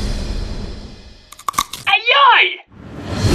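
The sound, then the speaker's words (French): A few sharp, crackly crunching snaps of a bite into Evander Holyfield's ear during a June 1997 heavyweight boxing rematch, loud over a steady noisy background, followed by a brief high wavering cry. “On se souviendra qu'11 ans plus tard, en juin 1997, il perdra la face en croquant les oreilles d'Evander Holyfield lors d'un combat revanche.”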